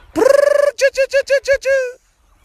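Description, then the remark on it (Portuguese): A chicken calls loudly: one drawn-out squawk followed by a quick run of five short, evenly spaced clucks and a final longer cluck, with no talking. “Aí que é um frango, menino.”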